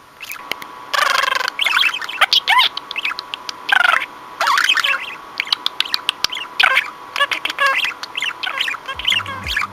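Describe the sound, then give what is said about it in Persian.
Several budgerigars squabble, as they do over territory during nesting: rapid, harsh chattering chirps and scratchy squawks in dense overlapping bursts, loud and nearly continuous, with no talking. “اگر بیشتر از یه مرغ عشق دارین و متوجه این صدا شدین، یعنی زمانشه که قفسشون رو بزرگتر کنین تا هر کدوم مزاحم اون یکی نباشه تو اون فضای کم.”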